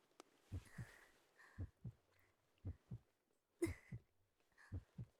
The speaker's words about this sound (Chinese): 宝，你好棒啊，这心跳是为我而跳动的吗？